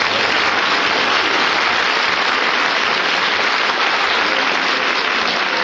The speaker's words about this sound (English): You're not supposed to applaud, you're supposed to boo.